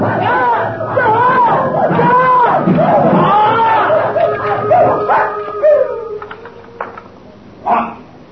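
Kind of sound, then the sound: animal, dogs barking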